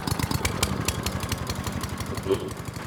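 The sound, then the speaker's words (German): A ride-on lawn mower's small engine idles steadily, its low, rapid, even chugging pulses ticking over without revving. “Wir haben gerade ein Wahnsinnsangebot für euch. Diesen fahrbaren Rasenmäher.”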